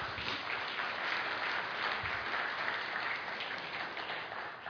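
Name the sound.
audience applause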